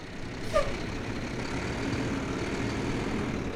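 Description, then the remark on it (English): A large water truck, hauling up to 1,700 gallons of water to refill water catchment systems in Arizona, rumbles steadily, with a brief hissing squeal of air brakes near the start before the low drone carries on alone. “Although some of the water catchment systems are self-sustaining, others require refills using large water trucks, hauling up to 1,700 gallons of water.”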